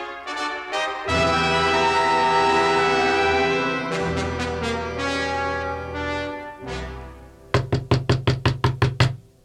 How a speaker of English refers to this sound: Someone's at the door. I'll get it.